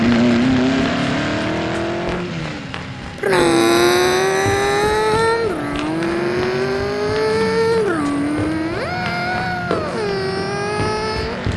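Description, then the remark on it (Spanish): A race car engine roars and revs hard as the car takes a curve and accelerates down the final straight. Its high whining pitch climbs through repeated gear shifts, dropping briefly and then rising again as it accelerates at full speed. “Frisco López, toma la curva, rebasa un perro, acelera en la recta final.”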